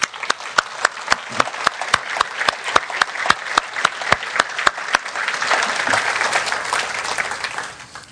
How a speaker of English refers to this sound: So as the body of Christ, as a family, we want to take a moment to praise and thank the women of this church for fearing the Lord. Would you give them a round of applause with me?